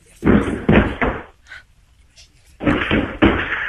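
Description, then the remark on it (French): Heavy thuds of Didier the dog throwing itself against a door, coming in two bursts of three rapid impacts separated by a brief lull with faint shuffling. “Cogne-toi. Jette-toi contre la porte.”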